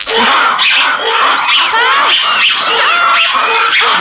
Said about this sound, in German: Mach das aus, das tut ja in den Ohren weh. Ihr habt Affengebrüll aufgenommen? Das waren aber keine kleinen Äffchen, sondern ziemlich große.